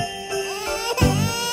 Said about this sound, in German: Ja, bei dem Babygeschrei musst du ja betäuben.